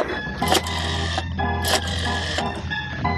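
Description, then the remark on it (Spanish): A telephone is handled and dialed in a third-floor office by a woman who has briefly removed her gas mask: mechanical clatter and whirring dial clicks, with three sharp bursts breaking over a steady low hum. No one speaks. “se despoja momentáneamente de su mascarilla contra gases y manipula el teléfono.”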